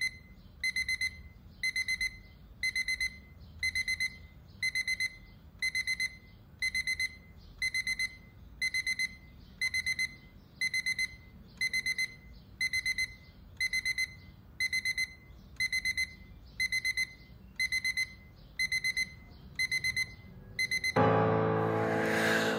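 An alarm clock rings on and on in steady pulsed bursts, about one beep cluster per second, shrill, with no voices, before the sound cuts to a different noisy background at the end.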